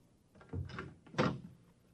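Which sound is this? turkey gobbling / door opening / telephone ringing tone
door opening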